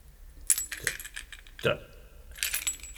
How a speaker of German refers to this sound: befindet sich an einem dieser Bunde vielleicht der Schlüssel für die Moorleichenvitrine? Moment, das muss ich überprüfen.